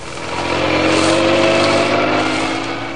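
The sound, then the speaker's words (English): A police car carrying Inspector Manson and Sergeant Wright careens out of the Scotland Yard gates on two wheels, heading out of London into Essex. Its engine roars loudly and steadily, the harmonic drone swelling as it accelerates away. No voices are present. “Inspector Manson and Sergeant Wright left Scotland Yard, careening out of the gates on two wheels and roared out of London and into Essex.”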